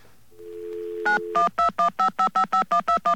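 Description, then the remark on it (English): A steady low dial tone gives way to a quick, evenly spaced run of about ten bright two-pitch telephone keypad beeps as someone dials information, each short and fairly loud, with no one speaking. “Gonna call information.”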